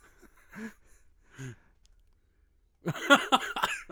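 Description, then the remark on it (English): Two short, separate coughs, followed after a pause by a louder, harsher burst of rapid hacking coughs, with no talking. “I've been battling this cough and some other stuff.”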